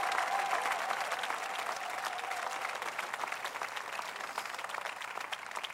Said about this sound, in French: Allez, allez, allez, prie, applaudis pour ton mariage, pour ta vie, pour ton futur.